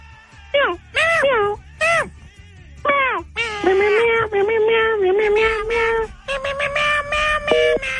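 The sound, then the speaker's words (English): A male phone caller mimics a cat, imitating an office coworker who talks like a cat, with a string of drawn-out, pitch-bending vocal meows, loud, several short ones followed by longer wavering calls. “imitating the guy in the office that talks like a cat?”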